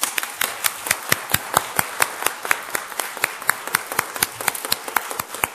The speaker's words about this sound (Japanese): その方々を心から歓迎する大きな祝福の拍手をしたいと思います。